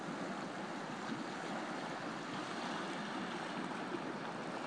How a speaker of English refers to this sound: Well, I suppose I'm such a sad act that I can't sit here without hearing this sea wash and thinking, you can't edit sea wash.